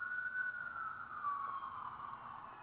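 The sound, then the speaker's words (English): A wailing emergency siren drifts past outside, its steady tone sliding slightly downward as it moves away, over low background rumble with no talking. “I mean, the sirens couldn't be better timed here.”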